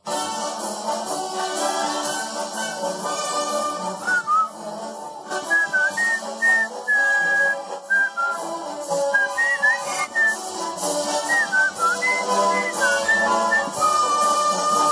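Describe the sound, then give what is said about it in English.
A bright, clear whistled melody carries the jaunty Colonel Bogey March, a 1914 march also known as the Bridge on the River Kwai theme, over a full instrumental backing, its notes hopping in short phrases with steady rhythm and moderate loudness throughout. “Hey, Ricketts is here from a song in 1914 called Colonel Bogey March.”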